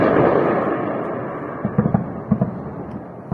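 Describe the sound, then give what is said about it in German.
A dull, steady rumble gives way to a series of sharp explosions at night in Tehran, Iran, around 2:15 a.m. local time, several bangs in quick irregular succession echoing through open air, with no one speaking. “In der Nacht waren gegen 2.15 Uhr Ortszeit aus Teheran Explosionen gemeldet worden, wie Videos auf Social Media zeigen.”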